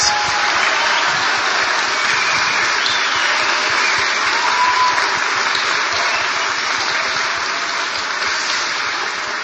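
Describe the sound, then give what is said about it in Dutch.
Sustained applause for the children's choir during a church service, a dense, steady wash of many hands clapping at an even loudness for the whole stretch, with no voices rising above it. “En ook daarvoor vraag ik een heel hard applaus.”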